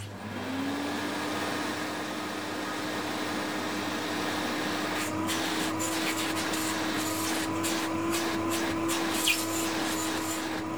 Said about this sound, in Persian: خب کدامتان متوجه شدین صدای چی است؟ خاله جان من فهمیدم. بگو عزیزم. صدای جاروبرقی. آفرین، صدای جاروبرقی است.